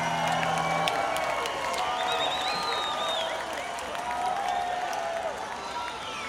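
A concert crowd in Buffalo yelling and cheering steadily for a song, a dense roar of many voices with scattered shouts and whistles rising above it, staying loud for the whole stretch with a slight dip near the end.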